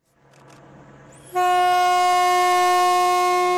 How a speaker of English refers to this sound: After 18 days and 28,000 kilometers, the freight train pulled into London on time last week. It passed through Kazakhstan, Russia, Belarus, Poland, Germany, Belgium, and France, finally crossing under the English Channel.